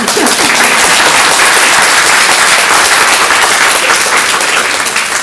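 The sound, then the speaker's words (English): A large audience applauds steadily, a dense, loud wash of many hands clapping that holds at a constant level for about five seconds with no voices, at the Pullman Center for Scholars and Writers, welcoming the production A Check Room Romance. “Yes, applause.”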